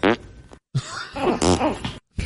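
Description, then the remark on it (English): A rapid string of loud fart sound-effect drops played on a golf course, three or four brassy, sputtering blasts with wobbling pitch, broken by brief silent gaps, with no talking. “Ham was playing nothing but fart drops”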